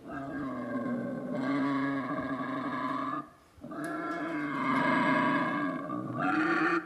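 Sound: wild boar grunting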